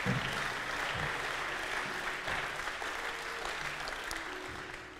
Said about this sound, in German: Können wir mal Pastor Graziano einen riesen Applaus geben?